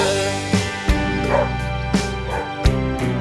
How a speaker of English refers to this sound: We're in the park. Different dogs in the park, yeah.